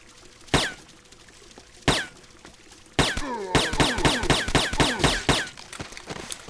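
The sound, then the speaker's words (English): Suppressed gunshots from a gun fitted with a silencer: two separate muffled shots a second apart, then a quick volley of about ten snappy cracks in rapid succession, with no talking. “I think it's time for the silencer again.”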